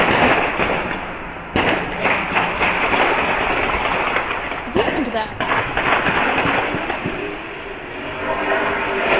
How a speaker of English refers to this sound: Straight up gangland style shootout. Absolutely outrageous. And yeah, that was Saturday, but it could have been any other night.